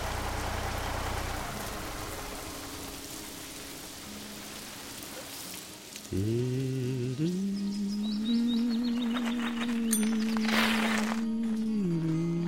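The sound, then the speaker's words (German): Steady rain hisses throughout at a fairly loud level. About halfway through, a strong, sustained droning hum rises over it and continues to the end. “Das regnet doch!”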